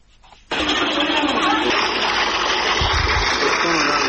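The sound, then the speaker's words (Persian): After a brief quiet moment, a hand water pump bursts into a loud, steady gush of water that pours continuously until the end. It is a pump in the Naranjbagh area of Jalalabad, Nangarhar, where people line up around it for water amid a water shortage. “شماری از مردم در منطقه نارنجباغ شهر جلال آباد دور یک بمبه آب صف کشیدند.”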